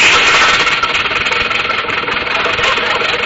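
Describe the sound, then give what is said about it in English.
A car engine is started with the ignition key and starter, then runs loudly and steadily in fog: a dense mid-pitched rumble with a faint knocking rattle underneath and no voices. It holds an even level throughout. “I turned the key in the ignition, stepped on the starter, and felt the surge of smooth power as the motor caught, and we glided quietly into the fog.”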